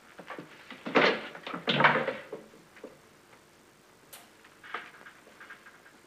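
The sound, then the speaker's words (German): A drawer is pulled open and rummaged through: two loud wooden scrapes and bumps, followed by softer clicks, taps and shuffling of objects inside. “Die hingere Schublade gesehen. Ja, mach nur.”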